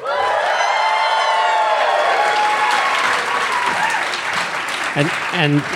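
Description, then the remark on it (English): A packed live audience at the Bell House in Gowanus, Brooklyn, erupts in loud, sustained cheering and applause, with whoops and shouts riding over dense clapping that holds steady, then thins slightly near the end as a few voices call out. “So let us know that you're packed right now.”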